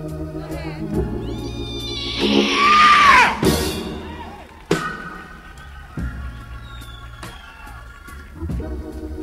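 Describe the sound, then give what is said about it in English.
A person lets out a loud, rising scream lasting a second or two, set against steady background music, followed by quieter vocal sounds. “No, it made me feel so good, I need to scream. …. Go ahead, scream.”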